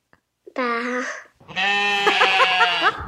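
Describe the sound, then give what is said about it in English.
A child's voice imitates a sheep, giving two loud bleats: a short one, then a longer, wavering "baa" with a shaky tremble, no other talking. “What noise does a sheep make?”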